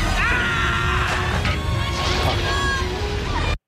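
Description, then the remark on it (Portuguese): A man lets out a strained, desperate scream in a scene from the film Titanic, over a loud, noisy wash of sound, followed by harsh crashing bursts before it cuts off abruptly. “Arthur, é um homem a gritar. desesperado.”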